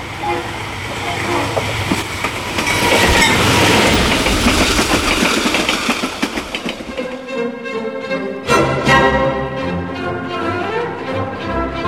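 A train rumbles loudly along railway tracks with a dense, rhythmic clatter of wheels for several seconds, then fades out as orchestral music takes over.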